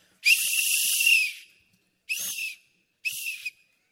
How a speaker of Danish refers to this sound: Men se hvad jeg har. Jeg er ikke fodbolddommer, men jeg har tit haft lyst til at prøve sådan en fløjte her. Jamen, hvad sker der, når man fløjter i den? Det ved jeg ikke. Kan vi ikke bare prøve? Prøv.